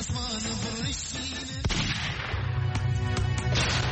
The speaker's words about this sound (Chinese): 几个月之后，科丘村枪声四起，凌晨2点，19岁的巴兹吓坏了。持续3天的枪林弹雨